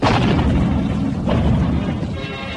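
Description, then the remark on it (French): Heavy cannon fire booms in a continuous, loud, rumbling barrage, deep blasts rolling into one another with no voices heard. “Et tandis que dans le boulevard du Palais, les SSI construisent un fortin en sac de sable sur la place Saint-Michel et le long du boulevard, les canons sonnent violemment.”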